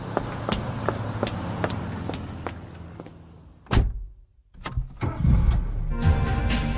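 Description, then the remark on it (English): The driver's own car: its engine turns over and starts up, rumbling loudly as it pulls away, preceded by steady ticking clicks and a sharp thud like a door closing. No one speaks. “Now I had my own car back.”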